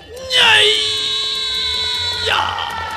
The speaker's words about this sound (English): If it helps, scream something very, very loudly, something like this.